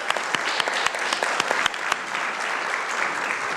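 An audience applauding together, a round of applause to God for the people who brought their talents and voices to a lessons and carols service: a dense, steady wash of clapping from many hands with sharper individual claps popping out, sustained at an even level throughout.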